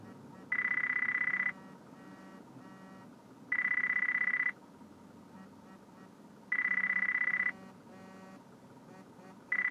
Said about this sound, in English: Phone's ringing.